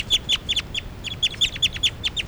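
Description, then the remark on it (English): A recording of birds, numbered 383 and 385, calling in quick repeated bursts: high, sharp chirps around a steady pitch, about a dozen in two seconds, fairly loud over a low rumbling background, with no talking. “Now all the birds are calling stuff.”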